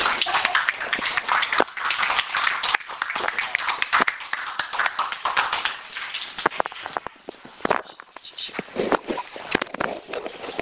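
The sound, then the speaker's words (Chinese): Steady applause of encouragement from a Christian audience, a dense crackle of many hands clapping that fills the whole clip, with scattered sharper claps standing out and a slight dip in intensity partway through. “阿们，掌声鼓励。”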